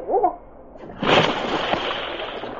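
A heavy splash as a large dog leaps into a river in a canyon, landing about a second in, followed by a sustained churning, sloshing wash of disturbed water as it swims, loud. A brief voice-like sound comes just before.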